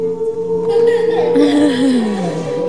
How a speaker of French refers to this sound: Oui, on entend un son qui se crée comme baleine sur scène. Et puis les enfants, tout de suite, ça réagit.